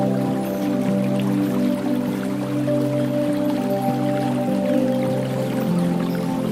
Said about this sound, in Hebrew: מרחוק אתם שומעים קולות של מים, וכשאתם צועדים לעבר מקור הקול אתם רואים מפל יפהפה שממש מזמין אתכם להתקרב אליו, לגוע במימיו, לעמוד תחתיו.